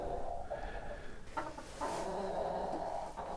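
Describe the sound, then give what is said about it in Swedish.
A young rooster, hatched last summer, clucks in a steady run of throaty, overlapping calls, with a couple of sharper bursts breaking through, over a constant farmyard background hum. “Det är en tupp som är kläckt i somras.”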